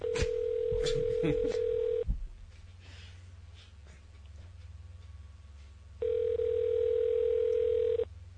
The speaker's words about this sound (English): Phone's ringing. Phone's ringing right now. Excuse me.